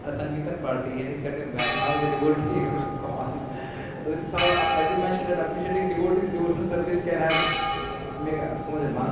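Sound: bell ringing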